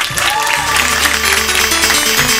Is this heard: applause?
yes